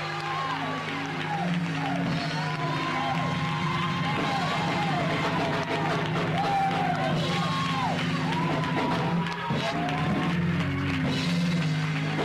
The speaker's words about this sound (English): Let's do it with a holler hand clap. Say hallelujah.